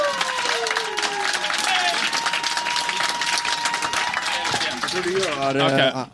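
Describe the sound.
An audience claps loudly and steadily for about six seconds, a dense rattle of many hands, with whoops and voices mixed in before it cuts off abruptly; the audience is voting by applause for which contestant was best.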